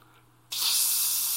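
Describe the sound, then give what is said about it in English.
A voice imitates air leaking from a cheap vinyl air mattress going flat on a floor covered with broken glass, with a sudden, steady, bright "psss" hiss that starts after a brief quiet moment and holds loud and even to the end. “Kind of reminds me if you bought a really cheap vinyl air mattress, and you put it down on a floor covered with broken glass and laid on it.”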